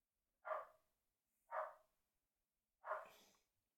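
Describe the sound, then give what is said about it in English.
The speaker's dog barks three times in a slow, uneven rhythm, each bark sharp, with quiet gaps between them and no one talking. “Well, my dog is obviously angered by JavaScript”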